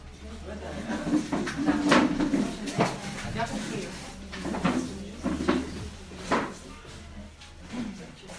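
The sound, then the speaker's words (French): A chair is carried in and set down with a series of wooden knocks, scrapes and thumps spread over several seconds, while muffled voices murmur. “Non, il y a une chaise qui arrive”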